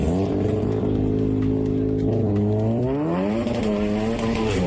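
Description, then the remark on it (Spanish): Loud engines rev and rise in pitch continuously, with a sustained tire squeal smeared across the upper range as cars drift, spin donuts and accelerate at an illegal car meet at the San Lázaro stadium in Santiago, leaving marks on the asphalt; no voices, just steady mechanical roar throughout. “Ha vuelto a ocurrir una concentración o quedada de coches en la ciudad con maniobras peligrosas que dejan huella en el asfalto. Derrapes, trompos, aceleraciones.”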